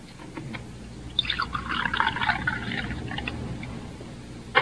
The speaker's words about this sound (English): Here, I pour you one more cup of coffee,